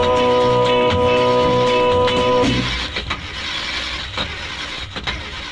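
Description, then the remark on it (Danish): A car engine cranks with a steady whine, then catches and runs rough, sputtering with irregular pops and rattles. No voices. “For han får nye kraft, når blot han giver et svagt putt putt.”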